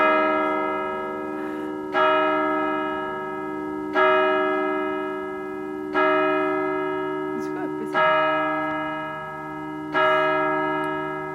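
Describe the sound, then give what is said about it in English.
A church bell strikes six o'clock, tolling six slow, evenly spaced strokes about two seconds apart, each ring lingering into the next, clear, with a brief faint sound in the background; heard outside the church in an Alpine village on a clear spring evening at sunset. “I'm talking to … outside the church as the bells strike 6 o'clock”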